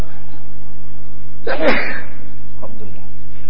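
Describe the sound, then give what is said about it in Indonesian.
A single sharp sneeze bursts out midway, brief, over a steady low hum, with a faint breathy sound shortly after. “Alhamdulillah. Yahdikumullah wa yuslih ba'dakum.”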